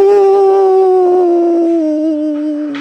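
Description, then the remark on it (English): A person's voice imitates a coyote howl: one loud, sustained, tonal wail held steady for a couple of seconds before its pitch slowly sags downward toward the end. “And Coyote threw his head back and howled.”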